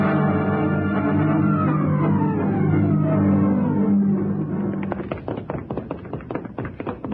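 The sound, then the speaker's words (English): A low sustained drone gives way to a rapid burst of heavy thuds as someone pounds hard on a door to break it down, roughly a dozen blows in an uneven, urgent rhythm. “Break the door down.”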